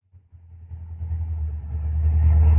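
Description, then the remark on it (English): A car engine rumbles low, revving steadily louder over a couple of seconds as the car pulls a bit off a steep road to park, with no voices. “Have to pull the car a bit off the road, though, to park.”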